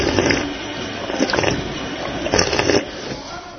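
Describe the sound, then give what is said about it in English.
Water splashes from an operational drinking fountain in a steady hiss, with two brief louder gushes as the stream is pressed harder. “And there are operational drinking fountains.”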